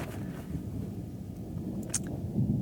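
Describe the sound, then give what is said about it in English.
A low, steady rumble of distant thunder outside rolls on for a few seconds, muffled and deep, swelling slightly toward the end with no voices present, during a day of on-and-off rain showers. “And oh, there's thunder outside.”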